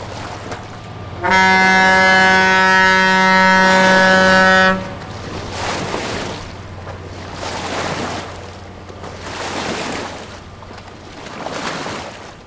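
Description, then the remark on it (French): A large river barge passes with a steady low engine rumble; a long, loud horn blast sounds, then its wake sends waves sloshing in rhythmic surges every couple of seconds. “Il y a aussi des monstres beaucoup plus conséquents qui passent et qui font des grosses vagues.”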